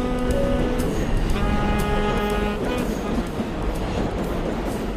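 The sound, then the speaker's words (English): A New York City subway L train, bound for 8th Avenue, runs with a steady, dense rumble, overlaid by sustained tonal whines and hums that shift in pitch partway through, loud throughout. “The subway plays a key role in Low Boy, John Ray's third novel for Farrar-Straus and Giroux.”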